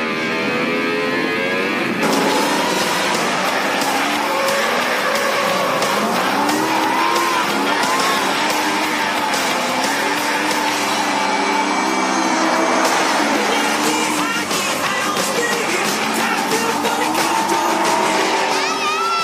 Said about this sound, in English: So drifting is when you're just like flying, you're hauling ass in the car in his little private space that he has here, and you go to make your turn, but you're going so fast that the entire car just kind of like, woo, it just like scoots sideways.